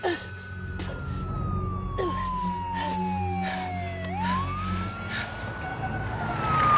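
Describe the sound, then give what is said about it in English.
A police car siren wails in a long, slow sweep as the car turns a corner up a hillside road, sliding down in pitch and then climbing back up over a low engine rumble, growing louder toward the end. “As a police car turns a corner up the hillside road, Riley slides out of the woods onto the street.”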